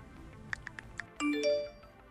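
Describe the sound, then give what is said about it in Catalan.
Four quick electronic pings tick out in a steady rhythm, then a brighter two-tone phone notification chime rings out clearly, with no voices present. “Així que aquest soroll... de tecleig, notificacions i vibracions desapareixerà completament dels centres educatius.”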